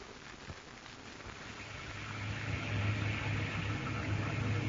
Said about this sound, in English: Ain't it nice in here, Ma? Here in the wind and the rain. Us in here safe and cozy.